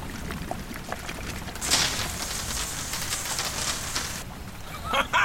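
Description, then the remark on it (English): Wine pours in a steady splashing stream into electrical circuits to short them out and release a lock, a bright hiss that starts abruptly and cuts off, followed by a few faint drips and clinks. “I poured the wine into the circuits and managed to short it out to release the lock.”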